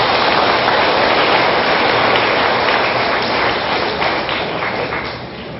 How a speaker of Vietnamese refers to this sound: Nếu các con có nghĩ như thế thì hãy cho một tràng vỗ tay thật lớn.